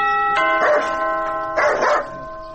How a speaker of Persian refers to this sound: تو باش که یک دفعه می زنگ دروازه را بزنم.